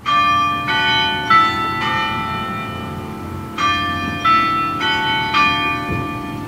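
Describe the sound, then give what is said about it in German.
The bell of the large tower clock of the old town hall in Lerwick, Shetland, rings outside in a steady sequence of resonant strikes, each tone overlapping the lingering hum of the last, fairly loud and with no voices present. “Draußen läutet die große Turmuhr des alten Rathauses in Lerwick und es klingt wie das akustische Ausrufezeichen hinter diesen Sätzen”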